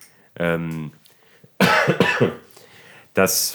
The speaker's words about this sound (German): Ich huste sehr viel. Vielleicht habe ich wirklich Corona.